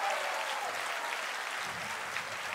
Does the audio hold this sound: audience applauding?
yes